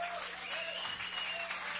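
Steady applause from a crowd, a dense continuous patter of clapping at even loudness across the whole clip, with no voices standing out.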